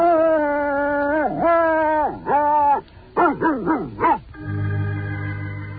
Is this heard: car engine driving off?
no